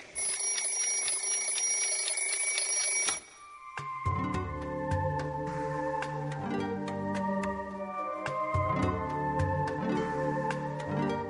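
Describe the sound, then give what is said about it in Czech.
A mobile phone alarm rings: a steady electronic tone for about three seconds, then a bright, repeating melodic ringtone of chiming notes over a pulsing low beat, continuing steadily with no voices. “mobilnik.”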